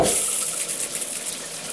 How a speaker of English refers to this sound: It uses way less water than the main showerhead. Compared to this...